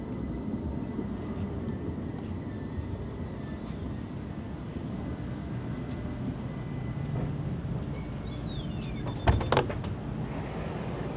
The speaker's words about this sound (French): Bienvenue à bord de la ligne 1. Ce tramway a pour terminus... Papinière.